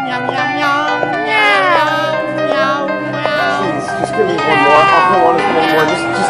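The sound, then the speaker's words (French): A human voice imitates a cat, producing a string of drawn-out, wavering meows, loud, with a second voice and some background chatter overlapping. “Il miaule bien.”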